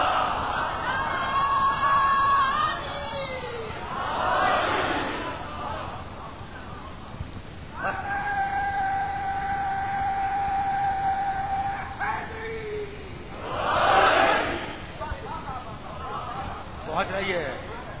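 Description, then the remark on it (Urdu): A large audience chants religious slogans in loud unison bursts, rising and falling, with a single voice holding long drawn-out notes between the crowd's responses. “اب بڑے نعرے لگا لیے تم نے, لگائے نا.”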